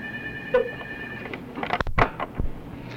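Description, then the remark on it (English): A telephone rings faintly with a steady, high electronic tone for about a second, followed by a few soft clunks and knocks. No one speaks. “I have the phone's ringing.”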